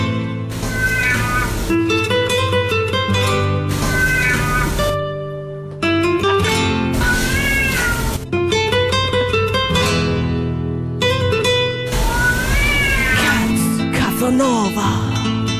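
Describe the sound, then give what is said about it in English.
A cat in Terrigal, nicknamed the cat Casanova, yowls and wails in long, rising and falling cries that sound almost like a child, repeating several times over a steady, loud background with no talking. “Sounds like at one point I thought it was a child, and then I was like, no, that's definitely a cat.”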